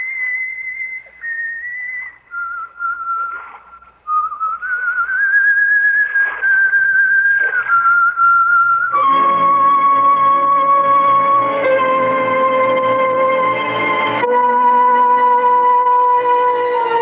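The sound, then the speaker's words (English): A woman whistles a wandering, melodic tune alone, clear, then fuller sustained music swells in beneath and carries on, loud and steady, with no talking. “There's an apparition for you. A whistling, pipe-smoking lady with a cutlass at her belt.”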